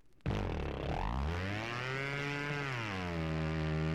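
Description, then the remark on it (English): An old boat motor roars to life after being pull-started with a rope made from a ripped shirt wrapped around its flywheel, its loud buzzing drone climbing in pitch, then holding a steady, continuous run with no voices. “It'll start now. He pulls that shirt tail.”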